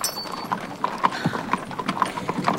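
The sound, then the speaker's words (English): Steady clip-clop of horse hooves on a hard road as a horse-drawn cart moves off, evenly paced knocks about every half second, moderately loud, with no voices over them. “Even the horses run at the thought.”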